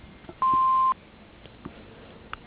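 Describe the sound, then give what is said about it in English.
A single steady electronic answering machine beep at a fixed pitch holds for about half a second, loud and clear, with a faint hiss of phone line noise and a few soft clicks around it. “Need your name and phone number after the beep.”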